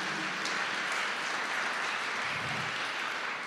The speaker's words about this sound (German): Das ist, ja, da können wir dem Herrn einmal einen Applaus geben.